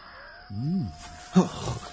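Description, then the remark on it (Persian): A short, eerie howl on the moor, said by people to be the hound of the Baskervilles calling its victim, rises and falls in pitch, moderately loud against a faint steady hum, followed by a brief burst of rough, noisy rustling. “مردم میگن صدای درنده باسکرویله که قربانیش رو صدا میزنه.”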